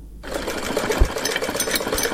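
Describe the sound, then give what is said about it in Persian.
A young Afghan woman's sewing machine starts up after a brief low hum and runs steadily, its rapid mechanical stitching chatter forming a dense, even rhythm with a few soft thumps underneath; no one speaks. “در گزارش از همکار مهناز نوری مشنوین که با صدای ماشین خیاطی دختر جوان آغاز می‌شود که به حد نگرانی دارد.”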